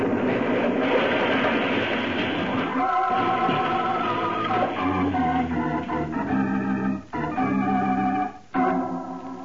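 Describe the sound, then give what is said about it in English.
A train wreck on a trestle, set off with a detonator, roars and grinds: a loud, sustained rumble of heavy cars with screeching, ringing metal tones, briefly dropping out twice near the end. No voices are heard. “far from the scene of the train wreck”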